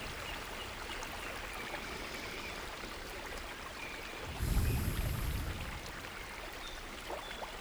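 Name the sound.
rushing flowing water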